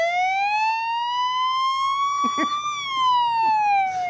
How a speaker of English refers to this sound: This the siren.